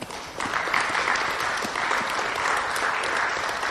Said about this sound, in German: Und ich meine nicht nur sonntags im Gottesdienst dann einmal klatschen, sondern ich meine die vielen Dinge, die zwischendrin passieren.